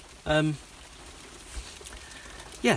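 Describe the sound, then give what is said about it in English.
Steady rain falls outside, a soft, even hiss running through the whole moment, with brief bursts of a man's voice near the start and end. “Now it's raining. Quite a nice background noise to the podcast. Bit of rain.”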